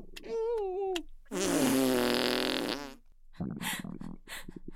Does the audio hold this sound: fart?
yes